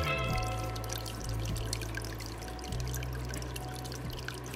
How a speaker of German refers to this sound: Also es ist auf jeden Fall eine Unterwasseraufnahme. Da brummt irgendwas, aber das ist kein Fisch, oder? Nee, ich glaube auch nicht. Ich habe auch mal versucht, Forscher zu sein. Das ist unser heimisches Aquarium.